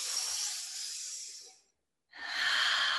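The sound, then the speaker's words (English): Two long, airy breaths, a slow exhale fading out, a brief pause, then a deep inhale swelling back in, breathy and hissing with no talking. “Juicy breaths in, juicy breaths out. Goodness in and goodness out.”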